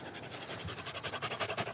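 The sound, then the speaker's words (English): A dog pants rapidly and steadily, quick breathy puffs repeating in a fast rhythm with no voices present. “Whoa. Good panting.”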